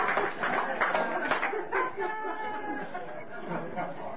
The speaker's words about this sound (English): little applause when I get up, if you don't mind. I said a little applause.